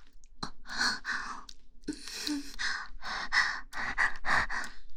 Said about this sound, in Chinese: 为什么会有喘息的声音啊？